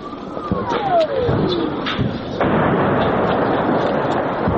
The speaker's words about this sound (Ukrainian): А оце вибухи були? Це їхні гради працювали.